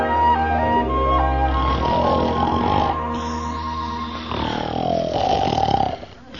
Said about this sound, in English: Hey, who that snoring? That can't all be me. Hey, who this in my bed with me?